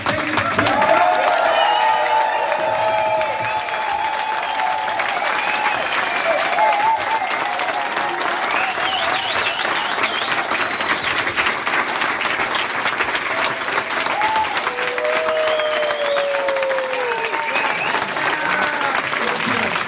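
A crowd applauds steadily for the full twenty seconds, a dense, loud wash of clapping with scattered whoops and cheers rising above it.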